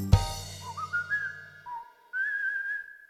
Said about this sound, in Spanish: Piensa en algo que quieras hacer. Si quieres silbar, pues silba.